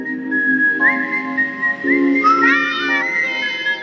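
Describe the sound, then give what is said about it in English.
A lone, eerie whistled melody from the movie Kill Bill, with long sustained notes and a few quick gliding slides, played loud with a faint backing underneath and no talking. “Well, Quentin Tarantino found whistling set a grisly mood for violence in the movie Kill Bill.”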